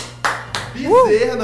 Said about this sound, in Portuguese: Eu precisei de aplausos pra isso aqui. Foi o melhor trocadilho da semana. Aplausos.